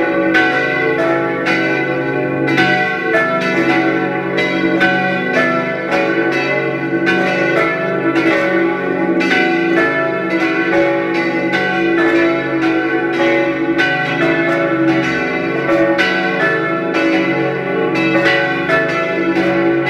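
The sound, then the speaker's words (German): Several church bells of the parish church of St. Theresia in Linz ring together at 12 noon in a continuous, overlapping peal, loud and sustained with rich ringing overtones and steady repeated strikes throughout, with no voices. “Es ist 12 Uhr. Sie hören die Glocken der Pfarrkirche St. Theresia in Linz.”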